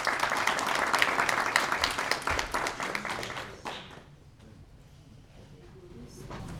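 A burst of audience applause, dense and loud, with many hands clapping for about three and a half seconds before it fades quickly into a quiet murmur of the room.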